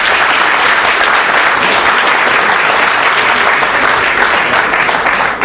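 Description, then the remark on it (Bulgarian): A crowd applauds steadily, the dense clapping loud and sustained for the full stretch without pause or voices. “Аплодисменти още веднъж.”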